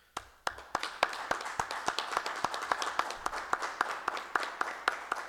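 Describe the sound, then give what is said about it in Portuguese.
A round of applause at a city council session for councillor Jarmas Machado, dense overlapping handclaps with sharp individual claps standing out in an irregular rhythm, steady and moderately loud throughout with no talking. “Gostaria de fazer uma salva de palmas para o vereador Jarmas Machado, que nos apresente.”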